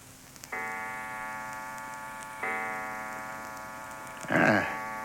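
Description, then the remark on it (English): A clock strikes four o'clock with slow, resonant chimes, each stroke ringing and fading before the next, with no voices. “Four o'clock. Timer was here. That clock's a minute or two fast.”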